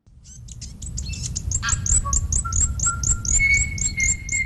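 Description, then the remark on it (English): Native New Zealand birds sing in a lively chorus in a large predator-free enclosure on New Zealand's South Island: rapid, repeated high chirps layered with long, pure whistled notes at a lower pitch, all over a steady low rumble. No one speaks. “It's been years since native birds sang in these parts because of a plague of possums, rats and stoats.”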